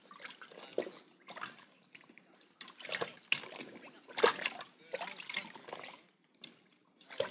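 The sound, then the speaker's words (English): Water sloshes and splashes in uneven bursts as a wrapped object is put to soak in a bucket of water with wetting agent added. No voices are heard. “But we couldn't detect anything that would trigger the thing, so we'll put it in the water bucket here.”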